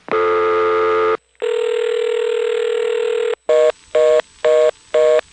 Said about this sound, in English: You know, it's funny, in the 1960s they invented a whole new set of telephone tones that sounded really nice. And then they invented T-carrier to make those same tones sound all fuzzy.